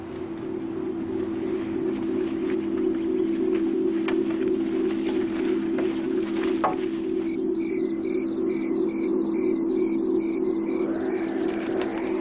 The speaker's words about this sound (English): Owls sure sound spooky.